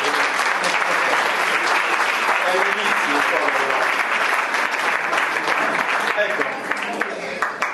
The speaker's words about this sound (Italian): Sì, coinvolgiamolo, dai. Un applauso di incoraggiamento.